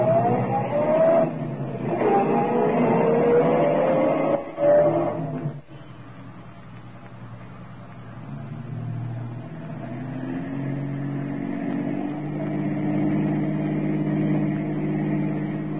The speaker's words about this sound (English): She stopped up ahead for a red light. Traffic sure is heavy today.